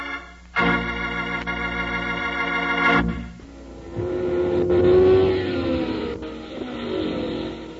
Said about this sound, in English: How exciting it is to go to the hot rod races, watching those fast, souped-up cars burn up the track.